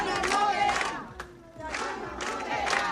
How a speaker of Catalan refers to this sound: Són els crits dels veïnats de Son Cladera, reclamen la reobertura d'aquest centre de la tercera edat que va ser desnonat, recordem, ahir, després de més de 3 anys de lluita dels veïnats.